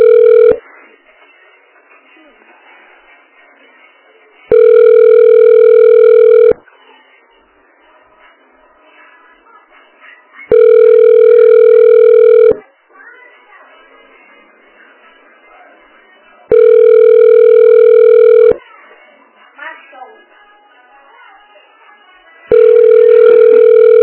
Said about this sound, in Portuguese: não atende o telefone?